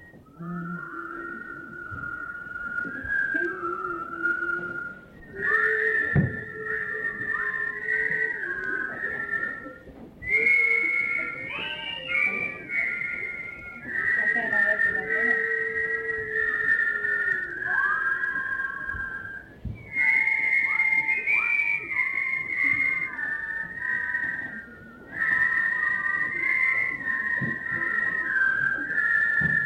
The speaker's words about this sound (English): I'd like to have you whistle a very old song. We all love it. I don't know if you've ever whistled it. And if you don't whistle well, then listen to those who do. Okay? Are you ready? That's the pitch. Let's get it on. All right.